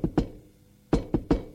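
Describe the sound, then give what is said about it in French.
Knocking on a wooden door: two quick raps, a pause of under a second, then three more firm knocks, fairly loud, with no voices. “Un après-midi, qu'il est à son bureau, l'on frappe à la porte.”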